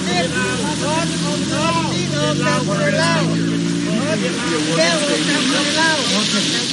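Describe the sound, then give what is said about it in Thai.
A peaceful protest crowd of the overseas Lao community boos and shouts in front of the Lao Embassy in Washington, DC, on a cold, rainy December 1. Many voices overlap in a loud, continuous roar, with rising and falling yells over a low, steady rumble throughout. “นั่นคือเสียงโห่ร้องที่ดังขึ้นเป็นระยะระยะของการโหมชุมนุมประท้วงอย่างสันติของประชาคมลาวในต่างแดนต่อหน้าสถานเอกอัครราชทูตลาวประจำนครหลวงวอชิงตันดีซีท่ามกลางบรรยากาศที่หนาวเย็นทั้งมีฝนปล่อยลงมาเป็นทรงๆของวันที่1ธันวาคม”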